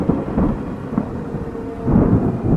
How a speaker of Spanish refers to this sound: No había nubes en el cielo, sin embargo, de pronto se escuchó que algo tronó por encima del pueblo.